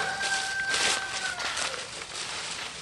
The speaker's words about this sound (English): shuffles through the piles of autumn leaves that line the dirt path outside his house.